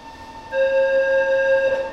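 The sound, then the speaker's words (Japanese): A subway train bound for Naka-Meguro at a station platform gives off a steady, high tonal whine that swells in abruptly after a brief lull and holds fairly loud, with no voices. “番線の電車は中目黒行きです。”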